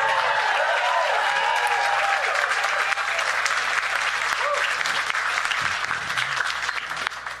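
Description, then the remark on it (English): An audience applauds steadily throughout for the opening acts, a dense wash of many hands clapping at once with some cheering voices mixed in, sustained and loud before tapering slightly at the end. “Keep that applause going for our openers.”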